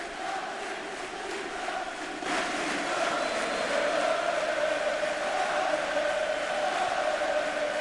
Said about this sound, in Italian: Tifosi svizzeri si fanno sentire. Il coro è Svizzernati, che vuol dire, di grazia? Svizzernati?